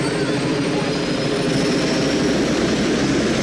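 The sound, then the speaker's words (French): A loud, steady roar of a helicopter engine with a faint rhythmic rotor chop as Zeus's helicopter flies off, holding constant throughout the short stretch with no one talking. “Mais encore plus insultant, il va se casser en hélico.”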